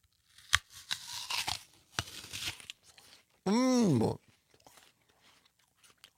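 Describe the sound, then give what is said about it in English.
Someone bites into a crisp, juicy apple with a sharp, loud snap, then chews with wet crunching. A second crisp crack follows, and a wavering, pleased-sounding vocal hum comes after. “So forgive us for eating in front of you, but listen to this pop.”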